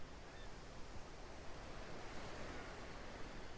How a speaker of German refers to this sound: Und wer hat noch nicht am Ufer eines größeren Wassers gestanden? Ein See oder das Meer mit Wellen, die vielleicht kommen oder gehen. Kommen und gehen.